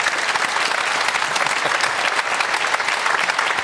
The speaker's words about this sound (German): Also könnt ihr mal klatschen, bitte? Nein. Ja. Für Stefan.